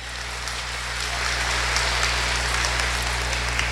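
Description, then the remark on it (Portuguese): Sustained applause from an audience, a dense crackle of many hands clapping that swells after the first second and holds steady and loud to the end. “Forte salva de palmas, aqui.”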